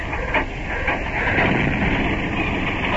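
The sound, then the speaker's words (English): A car engine cranks and turns over with a few rhythmic pulses at first, then settles into a steady, loud mechanical whir and rumble that runs unbroken with no voices. “He's getting into his car.”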